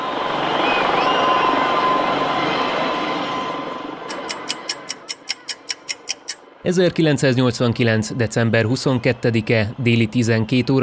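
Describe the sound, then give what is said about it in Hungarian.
A helicopter, carrying Nicolae and Elena Ceaușescu as they flee from the roof of the Central Committee building in Bucharest on 22 December 1989, roars loudly and steadily, then fades away, followed by a run of sharp, evenly spaced ticks before a man begins speaking. “Helikopterrel menekül Nikolaje és Elena Ceausescu a Központi Bizottság épületének tetejéről.”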